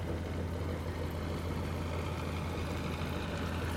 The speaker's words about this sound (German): An uns vorbei scheppern riesige Lastkähne mit Maschinerie oder großen Lastwagen.